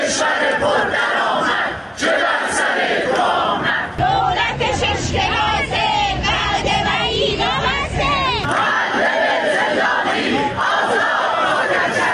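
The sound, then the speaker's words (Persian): A large crowd of retired civil servants chants loudly in unison at their weekly 'Protest Tuesdays' gathering in front of civil pension funds, held in several cities including Kermanshah, Arak, Ahvaz, Sanandaj, Hamedan, Yazd, Ardabil and Shiraz. Voices rise and fall in repeated rhythmic slogans, with a brief shift midway to overlapping shouted phrases before the steady chanting resumes. “گروه‌هایی از بازنشستگان کشوری در ادامه تجمعات هفتگی خود موسوم به سه‌شنبه‌های اعتراضی در مقابل صندوق‌های بازنشستگی کشوری در چندین شهر از جمله کرمانشاه، عراق، اهواز، سنندج، همدان، یزد، اردبیل و شیراز تجمع کردند.”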